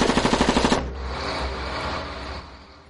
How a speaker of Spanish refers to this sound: Estos cabrones están disparando con mortero. Estamos en guerra. Hay disparos. Hay disparos todos los días.